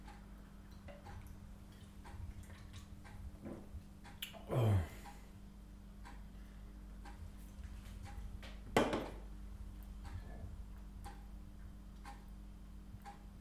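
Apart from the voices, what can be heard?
ticking clock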